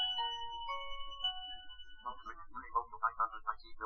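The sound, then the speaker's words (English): An old Nokia 2310 mobile phone rings, a few sustained electronic tones giving way to a quick, repeating burst of short melodic beeps. Fairly quiet, with no one talking. “Well, I was going to call up myself, and you heard somebody calling me up, and that said phone ringing.”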